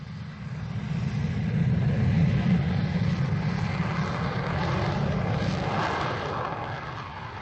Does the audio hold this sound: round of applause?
no